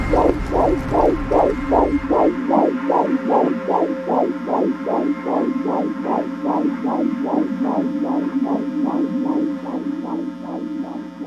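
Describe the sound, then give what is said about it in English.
A steady, rhythmic heartbeat throbs about twice per second for the whole stretch, each pulse a soft thump over a constant low hum, with a deep rumble fading out in the opening seconds. “The silence, which had been deafening for so long, was about to end with the sound of a heartbeat.”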